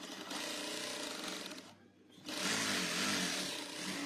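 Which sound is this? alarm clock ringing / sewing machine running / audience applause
sewing machine running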